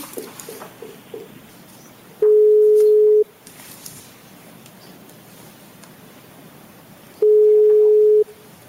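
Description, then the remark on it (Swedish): Two long, steady ringback tones sound about five seconds apart, each lasting roughly a second, a phone line ringing while calling a second interpreter, with quiet rustling in between. “Men då kopplar vi bort Elena. Och då ska vi ringa Marina.”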